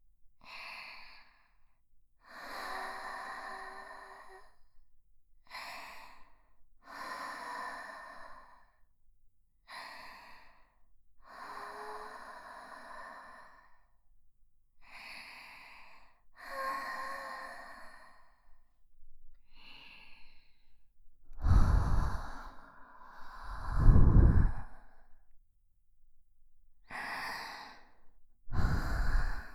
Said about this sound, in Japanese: 生温かい吐息を口の中に流し込まれて、精液のぼってきちゃいそうですか？